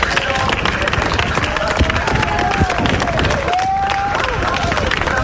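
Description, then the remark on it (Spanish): Neighbours on calle Joan Crespí in Palma applaud the Policía Nacional together in a steady, dense wash of clapping, loud and continuous throughout, with scattered cheers and a few sustained whistle-like tones rising above the crowd. “hacían sonar las sirenas, la policía hacia la gente, con ese aliento, y también los vecinos hacia la Policía Nacional.”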